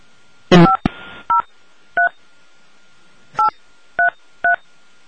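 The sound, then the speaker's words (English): Touch-tone keypad beeps as the caller's 10-digit phone number is punched in at an automated prompt: after an opening click, about five short dual-pitched tones sound at uneven intervals, clear, with no one talking. “Otherwise, please enter the 10-digit telephone number you are calling from.”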